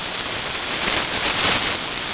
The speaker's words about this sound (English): In western Pennsylvania, I've got static crashes going up to 5 over 9, and in between the static crashes, just the band noise is about S8. So in western Pennsylvania, it's a fairly noisy evening. Not extremely noisy, but moderately noisy.